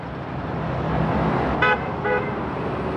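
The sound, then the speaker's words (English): A passing car in Northeast Portland honks its horn twice in quick succession, a vote for Durant prompted by a billboard reading "Oden, honk once, Durant, honk twice." Two short bright toots rise over a steady wash of road traffic noise. “The billboard says, Oden, honk once, Durant, honk twice. And I'm going to see if it works.”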